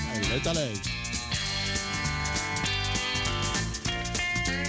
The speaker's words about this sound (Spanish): Vuelven los premios Darwin. Vamos a hacer uno hoy. Vamos a hacer uno. Vamos con la sintonía.